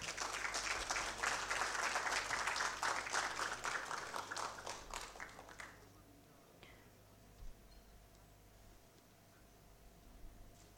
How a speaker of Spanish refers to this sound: Fuertes los aplausos.